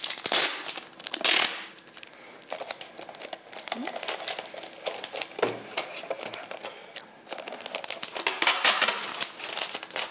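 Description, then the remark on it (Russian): Crinkling and crackling of plastic adhesive tape being pulled and smoothed around a cone, with sharp tearing bursts and rustles continuing for about ten seconds, no one speaking. “Мы берем конус, и для того, чтобы он потом смог отойти от наших ниток, мы обклеиваем его скотчем.”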